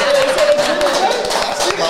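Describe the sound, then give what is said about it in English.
A burst of hand clapping from a small group, dense and steady for a couple of seconds, fairly loud, with faint voices mixed in underneath. “You going to clap it up for that?”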